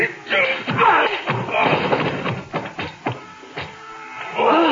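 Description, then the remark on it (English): A heavy blow knocks a man out, landing with dull thuds amid a noisy scuffle, several sharp knocks and thumps scattered over a busy rustling struggle, with strained voices mixed in. “Do you think knocking him out is enough?”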